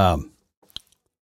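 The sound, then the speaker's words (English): A voice trails off, then a brief slurp of someone sipping a cup of chai, a few soft wet clicks around one sharper sip, followed by silence. “I better take another sip of chai.”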